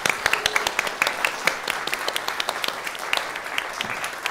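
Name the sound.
large round of applause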